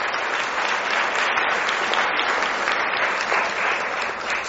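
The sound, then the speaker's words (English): A large audience claps steadily and loudly for several seconds for a program's interns and volunteers, a dense, continuous wash of applause with no voices over it. “So let's give these future leaders a hearty, hearty round of applause.”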